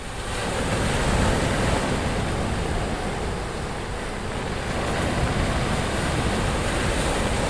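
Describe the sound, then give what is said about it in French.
A huge wave of a sudden, immense flood surges over the lower part of a town in a loud, unbroken roar of rushing, churning water, holding steady from start to finish with no voices and no distinct separate crashes. “Une gigantesque vague déferla certains vikings, en profitèrent pour surfer avec leurs boucliers.”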